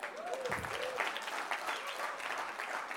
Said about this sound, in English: We're clapping for four songs. That's awesome.